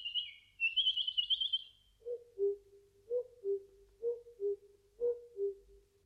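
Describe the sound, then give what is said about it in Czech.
Birds singing in a quiet forest: a high, rapid trilling song, then a lower bird repeating a two-note call in a steady rhythm, clear with no talking. “V lese bylo ticho, jen ptáci zpívali.”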